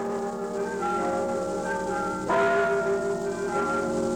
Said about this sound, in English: Those are the bells of St. Michael's Russian Orthodox Church in Sitka.